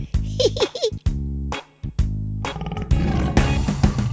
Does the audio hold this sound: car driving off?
no